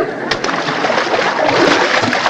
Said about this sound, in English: Hey, Eddie, what is that sound? That's the audience drooling.